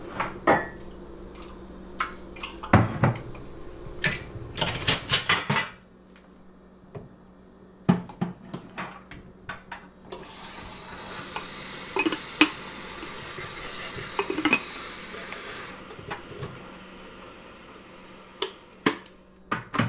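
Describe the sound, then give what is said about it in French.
Tea being made: scattered clinks of cups and dishes, then a steady hissing rush of water for several seconds before more soft clatter. No one speaks. “Le bruit du thé se faire.”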